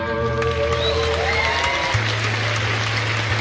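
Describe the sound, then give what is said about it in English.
A light smattering of clapping crackles steadily throughout, with a low sustained hum and some fading tonal ringing underneath; no one speaks. “Smattering of applause.”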